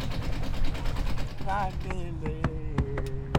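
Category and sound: vehicle, boat motor running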